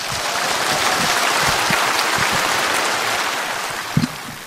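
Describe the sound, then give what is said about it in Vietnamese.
Steady applause from an audience at a Buddhist retreat as a representative of the visually impaired participants comes up to speak, a dense wash of many hands clapping continuously at an even loudness, with a sharper clap standing out near the end. “Xin quý vị hãy cho một tràng pháo tay.”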